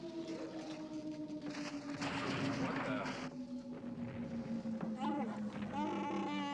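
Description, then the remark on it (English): A steady, slowly sinking spaceship engine drone, broken midway by a loud roaring rush of debris-like noise as the ship comes out of hyperspace into a meteor shower from an asteroid collision; a voice speaks near the end. “We come out of hyperspace into a meteor shower, some kind of asteroid collision.”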